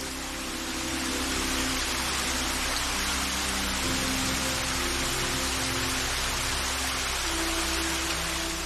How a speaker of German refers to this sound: Fast wie in Zeitlupe bewegt der Wasserfall ganz elegant seine Wassermassen entlang einer Felswand.